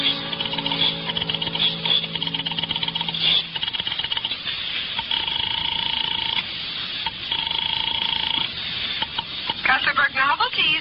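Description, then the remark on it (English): A rotary telephone dial clicks and whirrs through several turns as someone dials an office number with a shaking hand, fumbling the dial and starting again, with steady telephone tones humming over a crackly, hissing background. No one speaks. “I bolted the door, picked up the phone, and started to dial the number of Harvey's office”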